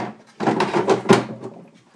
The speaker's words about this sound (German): Und dann kommt jetzt noch ein Liter Wasser dazu. Ich habe da schon mal was vorbereitet. Ich wollte das schon immer mal sagen. Deckel auf den Wassertank und in die Maschine.